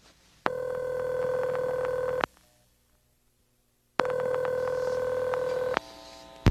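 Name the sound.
telephone dialing and ringing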